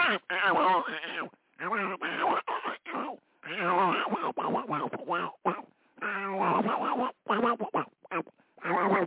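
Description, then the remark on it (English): A voice imitating a duck addressed as Daffy, in a rapid, garbled run of quacking syllables, with short pauses between bursts, fairly loud over about nine seconds. “Well, I guess he's saying you shouldn't be talking to a duck.”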